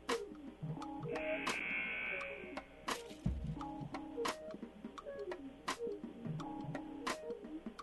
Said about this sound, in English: All right, and that buzzer calls for the end of the break between quarters.